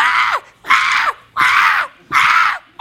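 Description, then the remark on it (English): A person imitates a newborn baby screaming: four loud, shrill wails in quick succession, each about half a second long and ending in a falling squeal, with no talking. “What would it take for you to scream like a newborn baby screams?”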